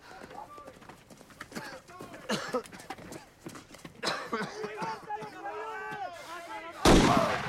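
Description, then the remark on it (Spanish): Repeated gunshots crack outside in an irregular volley, some sharp and others muffled, while voices shout over them and a louder burst hits near the end. “Afuera se oyen tiros.”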